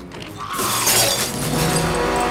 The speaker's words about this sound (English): Edgar breaks into Gutenberg's jewelry shop and wades inside. He uses both hands clasped together to break the display counters and rummages briefly through the jewelry in them.